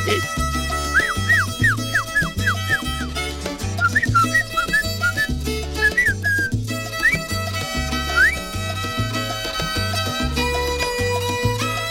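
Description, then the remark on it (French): A person whistles a bright melody of quick sliding notes over a steady, bass-heavy music track, the whistle coming in short phrases that rise above the beat. “Ça, c'est même qui siffle ça.”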